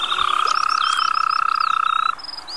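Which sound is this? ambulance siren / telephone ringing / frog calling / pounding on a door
frog calling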